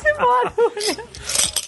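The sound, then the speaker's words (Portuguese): Small beach seashells, used in place of coins, clink and rattle together in quick bursts like a handful of coins, with a voice talking over the start of the jingling. “Porque na verdade eu tô sem moedas aqui. E aí eu tô com búzios. Búzios da praia.”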